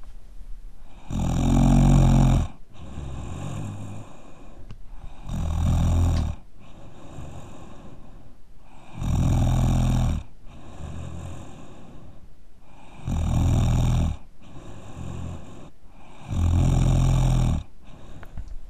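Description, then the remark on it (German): A man snores loudly while asleep, five deep rasping inhales in a slow steady rhythm, each lasting about a second and a half with quieter breathing between them. “Ja, hiermit der offizielle Beweis. … schnarcht ja wohl.”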